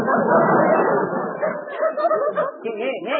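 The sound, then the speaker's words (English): A dog, Daisy, barks and whimpers, a rough, busy burst giving way to a string of high, wavering whines and yelps that rise and fall over a few seconds. “Oh, hello, Daisy, good dog. What's the word wrong with Daisy?”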